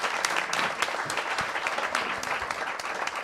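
A crowd applauds steadily, a dense wash of many hands clapping at an even level throughout, with no voices standing out above it.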